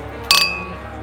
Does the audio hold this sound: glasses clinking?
yes